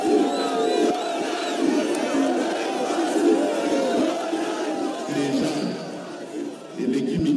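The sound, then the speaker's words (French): A large crowd in Kinshasa roars and cheers continuously, acclaiming President Félix Tshisekedi at the launch of the Kinshasa propre programme, many voices shouting together in a dense, loud wash with occasional whistles cutting through. “Le président Félix Tshisekedi y assiste, c'est lui le fils de l'opposant historique que la foule acclame.”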